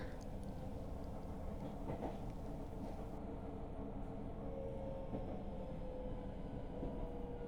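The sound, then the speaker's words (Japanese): Steady rumbling inside a moving train carriage with a few other passengers aboard, with a continuous low roar and faint rhythmic clatter of wheels over rails, plus a thin high squeal rising briefly midway. “今電車で二人っきりだから、まあ少しは他のお客さんも乗ってるけど、四捨五入して二人ってことで”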